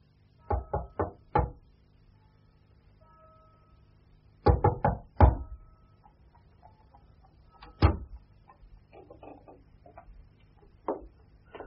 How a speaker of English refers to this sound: Until the sun has set, when old Mr. Tulkinghorn comes silently up the stairs and stands on that same landing, knocking at the shadowed door.